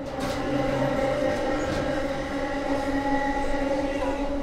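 A MARC commuter train rolls steadily along the rails, a continuous loud rumble layered with droning tonal hums that hold evenly throughout, with no clear clacks or voices standing out.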